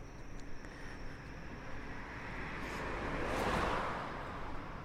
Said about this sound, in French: La fréquence des voitures est bien plus faible. On peut deviner que on est à une heure plus tardive. Que les sons se font plus lointains.